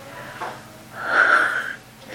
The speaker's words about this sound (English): Is he snoring? I think he's cold. He's snoring.